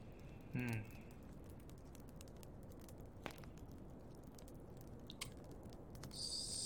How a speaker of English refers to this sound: Cozy fire in the fireplace.